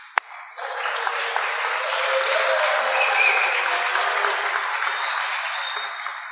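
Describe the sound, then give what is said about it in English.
A crowd at a monthly meeting in Stanley Hall Ballroom bursts into steady applause after a sharp opening click, many hands clapping in a dense, even wash that holds strong for several seconds without voices. “And we've got quite a crowd here tonight, haven't we?”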